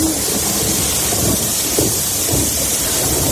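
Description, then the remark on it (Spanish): Heavy rain pours down steadily while strong wind roars and buffets during a cold-drop (gota fría) storm in the Valencian Community, Spain, on a Saturday, creating a loud, dense wash of noise with low rumbling gusts and no voices. “La lluvia y el viento en la Comunidad Valenciana han estado sonando así de fuerte durante todo el sábado.”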